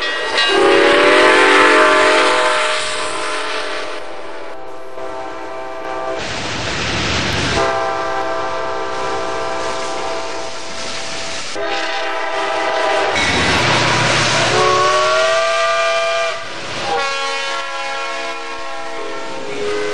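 A freight train rumbles past at midnight while its horn blares in long, loud, sustained blasts, wheels clattering steadily underneath for the whole stretch with no voices.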